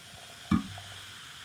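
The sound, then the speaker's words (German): A drink is poured into a glass: a single quick clink of bottle on glass, then a soft, steady trickling hiss of liquid running throughout, fairly quiet, with no talking. “Ich gieße mal ein. Oh. Ich gieße jetzt auch.”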